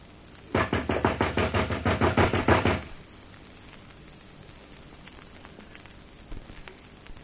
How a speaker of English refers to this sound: Now, knock just once more. Don't let's bother. Let's just go in. I said knock.